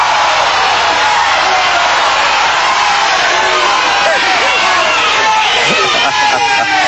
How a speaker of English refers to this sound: No, actually, this is a splendid hand with nines high, and the audience is screaming, keep it.